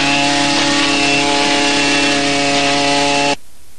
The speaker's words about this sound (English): Carl starts a leaf blower.